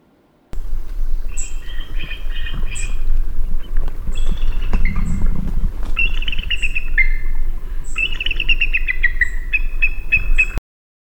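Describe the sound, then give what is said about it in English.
A bald eagle gives a series of thin, high chirping whistles, some in quick stuttering runs, carried clearly over a steady low rumble of wind or engine noise. “For a large bird, bald eagles have a small, almost polite call.”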